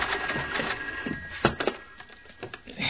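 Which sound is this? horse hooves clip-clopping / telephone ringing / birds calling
telephone ringing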